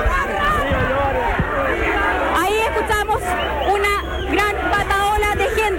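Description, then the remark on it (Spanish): A dense crowd shouts and yells outside the Centro de Justicia, at the exit of building D where the verdict in the Claudio Crespo case is to be read. Many raised voices overlap in a loud, unbroken roar, with sharp, rising cries cutting through throughout. “No, gracias, que no escucho nada ya a esta altura del gritereo.”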